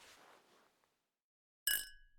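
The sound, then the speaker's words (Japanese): After a soft, breathy rustle and a short silence, two glasses clink together once in a toast, a bright ringing chime that lingers and slowly fades. “グラスこっちに寄せてください。”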